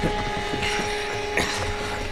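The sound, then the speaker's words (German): A padlock is handled and snapped shut on a door: a few sharp metallic clicks and light rattling over a steady low hum, with no one speaking. “Und dann sperren wir die Tür mit diesem Vorhängeschloss ab.”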